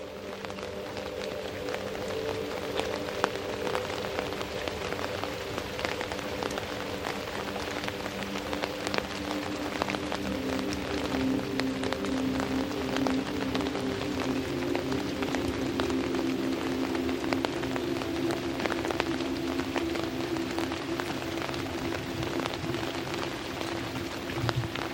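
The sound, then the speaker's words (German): Steady rain pattering on a surface, a continuous dense wash of drops with scattered sharper ticks and a low droning hum underneath, even in loudness throughout with no voices. “Deine Gedanken verschwimmen mit dem Geräusch des Regens.”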